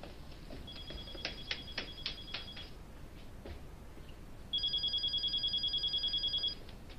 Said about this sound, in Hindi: Telephone.